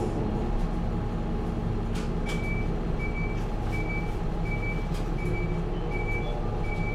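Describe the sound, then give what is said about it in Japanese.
A bus bound for Gardbay (ガードベイ) rumbles loudly and steadily as it departs from the stop, while a string of short, evenly spaced electronic beeps sounds over the engine drone. “ガードベイ行き発車いたします。”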